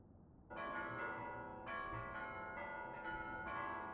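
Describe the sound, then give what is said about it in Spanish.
A large, resonant monastery bell clangs loudly several times at uneven, disordered intervals as an alarm, each strike swelling over the lingering ring of the last, with no voices present. “La campana del monasterio interrumpió sus planes. Los golpes resonaban por todas partes, anunciando un acontecimiento fuera de lo normal.”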